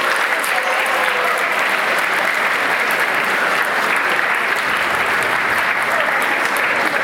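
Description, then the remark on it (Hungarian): Sustained applause from an audience for the school classes that achieved better results: a dense, even patter of many hands clapping at once, staying loud and steady for the full seven seconds with no voices rising above it. “Őket külön is tapsoljuk meg, azt kérdezik.”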